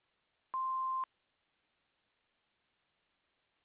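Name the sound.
voicemail beep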